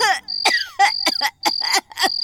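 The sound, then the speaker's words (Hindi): An old woman coughs strangely, about six harsh, rasping coughs in quick succession, fairly loud, with an odd high whistling wheeze threaded between the bursts. No one speaks. “तभी किसी बुढ़िया की खांसने की आवाज आई, बड़ी अजीब आवाज थी।”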